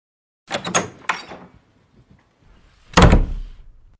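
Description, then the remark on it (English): A door being opened: a quick series of rattling latch and handle clicks, a short pause, then one heavy wooden thud that fades out. No one speaks. “I got the door.”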